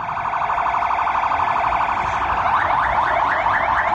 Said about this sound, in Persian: و پس از آن آژیر آمبولانس ها.